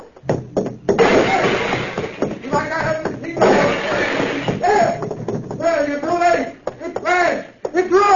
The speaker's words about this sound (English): I'll let you have this crowbar, too. I'll smash you like I smashed this machine.